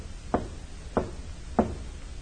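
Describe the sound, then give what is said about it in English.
Three sharp knocks on a side door of a building in a city warehouse district after 11 o'clock at night, evenly spaced about half a second apart, each a dull thud over a low background hum with no voices. “He knocks, pauses, then knocks again.”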